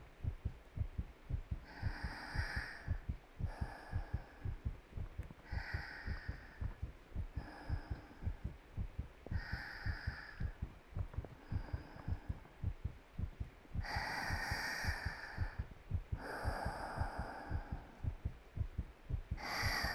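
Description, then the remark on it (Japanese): A steady, muffled heartbeat thumps low in a continuous rhythm, heard with an ear against a person's chest, with soft breathing swells rising and falling over it. No one speaks. “心臓の音聞いたら 安心して安眠できるんだって。”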